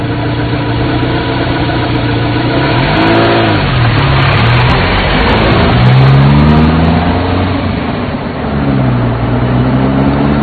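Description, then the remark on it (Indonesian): A new car's engine hums steadily as it is driven around for a test drive, its pitch rising and falling as it revs through gear changes, with a continuous loud rumble and no voices. “Esoknya, aku sudah berada mengendarai mobil baruku itu.”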